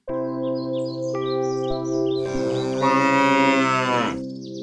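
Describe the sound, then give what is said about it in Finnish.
A horse lets out a loud, drawn-out neigh, a steady tone swelling into a rough, quavering whinny before it cuts off, with faint chirping in the background. “Ja tämä on oikea hevonen.”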